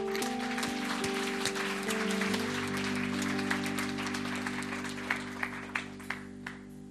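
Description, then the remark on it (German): An audience claps steadily over a sustained background tone, the dense applause gradually thinning out into a few scattered, louder claps near the end. “Komm, lass uns mal einen richtigen Applaus geben.”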